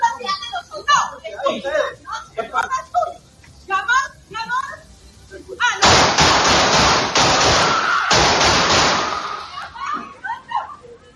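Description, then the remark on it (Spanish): People talk for several seconds during a dispute between neighbors in Costa Rica, then one man fires a pistol at another: a loud, rapid string of 14 gunshots, many sharp bangs close together for about three seconds before voices return. “¡14 tiros”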